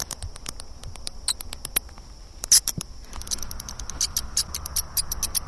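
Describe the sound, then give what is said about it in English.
High, sharp bat squeaks chatter in rapid, irregular bursts, some clustered and some isolated, over a faint low background hiss with no talking. “Let's listen to the sound of some bats.”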